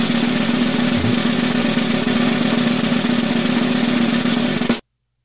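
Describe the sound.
A continuous, rapid drum roll holds at a steady, fairly loud level for nearly five seconds, a dense rattling buzz with a low drum tone underneath, then cuts off abruptly. No one speaks.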